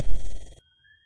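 A short, bright electronic Skype message notification beep from a desktop computer, marking an incoming file, sounds once, loud for about half a second, then cuts off, leaving a faint thin tone trailing into near silence.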